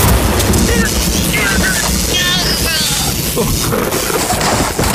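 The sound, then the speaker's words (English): A loud, steady storm roar of driving rain and gusting wind buffets the microphone without letup, harsh, with no distinct thunderclap standing out. “Luckily, I did all my audio after the fact, so I wasn't even close to them when they were outside in the storm.”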